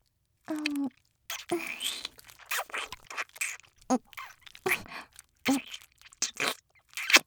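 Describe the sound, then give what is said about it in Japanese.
Wet, squelching rubbing sounds from an onahole masturbation sleeve being rubbed, coming in a quick irregular series of moderately loud bursts with brief pauses between them and no talking. “オナホールゴシゴシして抑え込んじゃうからね。あら、クチュクチュクチュクチュ、シカシカシカシカ。”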